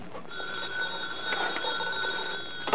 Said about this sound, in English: Now the phone. Quiet, will you? I'm going to answer you.